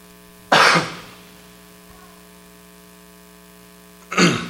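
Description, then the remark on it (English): Two short throat clearings a few seconds apart, the first louder and longer, with a steady low electrical hum running underneath and quiet in between. “Trying to clear my throat without being too loud.”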